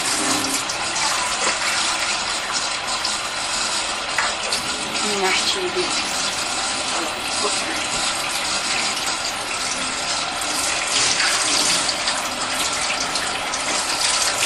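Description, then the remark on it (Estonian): Water pours steadily onto a potted chili plant, a continuous gushing and splashing that runs the whole time, with a person briefly speaking over it. “Ui, chili, oota, ma panen chilile vee ära.”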